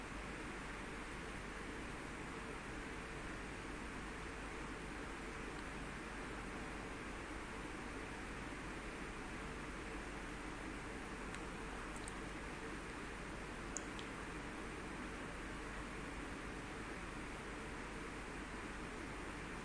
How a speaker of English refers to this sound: Now concentrate on the noise, humming noise coming from the ceiling